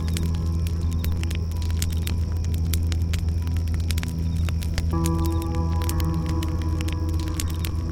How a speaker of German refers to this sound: Ein Abend am Lagerfeuer.